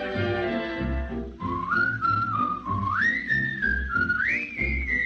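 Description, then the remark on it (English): A clear, bright whistled melody glides and steps between notes, entering after a brief musical intro and carrying over a steady, bouncy instrumental accompaniment. “Take the straight and narrow path, and if you start to slide, give a little whistle.”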